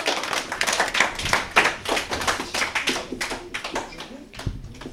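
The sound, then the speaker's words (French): A small audience claps steadily for several seconds for the contestants as the game Traduis-moi begins, a dense patter of overlapping hand claps that stays fairly loud throughout with no pauses. “On peut les applaudir.”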